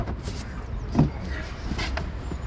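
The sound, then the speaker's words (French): A silver-grey 2007 Renault Clio car idles with a steady low engine rumble, with a brief mechanical whir and soft clunk partway through, like a window or door moving. No one speaks. “De la voiture de Mathéo. Facile à reconnaître à l'oreille, c'est une Clio gris argenté”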